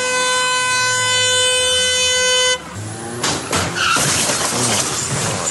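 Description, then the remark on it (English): A Mitsubishi SUV's tyres give a loud, sustained screech for a couple of seconds while it stops at traffic lights in the suburb of Greenacre. The screech then cuts off into a noisy crash with sharp impacts and rattling debris as the SUV hits a car next to it. “It shows the Mitsubishi SUV burning rubber while stopping at the traffic lights, and then it hits a car next to it before crashing into the front of the hijab house in the suburb of Greenacre yesterday afternoon.”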